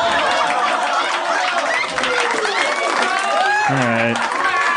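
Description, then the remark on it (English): A crowd applauds and cheers in a loud, continuous burst lasting several seconds, with many overlapping voices shouting and whooping over the clapping. “Can we get a round of applause for my roommate?”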